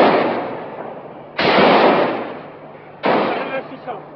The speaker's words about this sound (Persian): این تهاجم 20 دقیقه‌ای با شلیک سلاح‌های مهاجمان و پلیس محافظ مجلس نیز همراه بود.